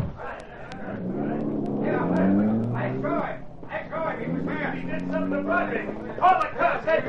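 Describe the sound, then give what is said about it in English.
A car engine revs and accelerates away, its pitch climbing steadily, under a busy layer of overlapping voices and commotion that continues throughout; the car speeds off after an unconscious man is put into it. “Get him into the car. All right, that'll do. Now step on it, Cato.”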